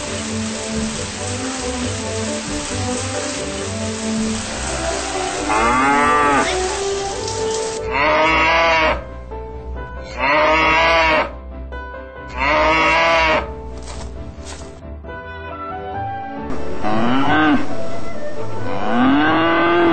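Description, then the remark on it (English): Cows on a pasture farm moo repeatedly, several long, loud, drawn-out calls with rising and falling pitch, one after another over a steady rushing background noise. “For him, the farm is the universe, and the cows are stars.”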